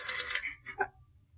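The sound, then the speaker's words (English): A brief, bright ring comes through a telephone line as a call is placed to a doctor: a cluster of shimmering metallic pulses followed by a couple of shorter tones that quickly fade into a low hum. “Call him. Find out about Anne. This phone here.”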